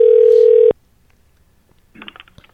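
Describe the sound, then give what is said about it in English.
A telephone being hung up: a loud, steady dial tone holds one pitch for under a second and cuts off abruptly. Faint line noise follows, then a brief burst of muffled phone-line sound. “you don't hang up on me.”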